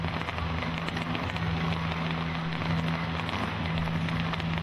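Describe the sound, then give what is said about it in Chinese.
Fireworks launched from more than a dozen points at once crackle and pop in a dense, unbroken stream, with a steady low hum beneath and no clear individual bangs standing out. No one speaks. “在歌声结束之际，焰火正式开始，十几个点同时发放，随即天空中出现了各种形状绚丽多彩的美丽画面。”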